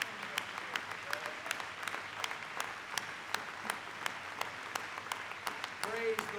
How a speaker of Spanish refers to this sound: Deberíamos ponernos de pie y darle un aplauso, porque le dijimos, yo te amo, Señor, yo te adoro, Señor Jesús.